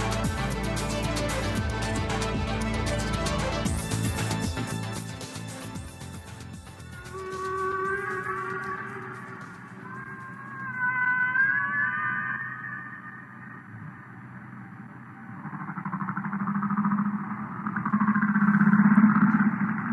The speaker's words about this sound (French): on entend le chant des baleines, hein, de mieux en mieux connu ce chant-là, mais que les chercheurs, paradoxalement Gaël, ont de plus en plus de mal à entendre dans la cacophonie grandissante des océans.